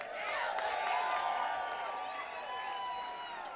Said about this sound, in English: Can we get one more round of applause for the …?